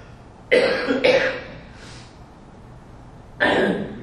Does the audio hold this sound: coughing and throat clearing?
yes